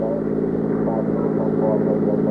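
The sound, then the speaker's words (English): A car is driven to 73rd Street and 3rd Avenue, with a steady engine hum and a low rumble that holds constant throughout, a continuous drone with no breaks. “I got in and we drove to 73rd Street and 3rd Avenue.”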